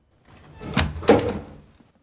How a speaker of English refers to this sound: Hearing a footfall from the other side of the room, he carries his candle over to a cupboard. Grasping the door handle slowly, he opens the door with a sudden yank.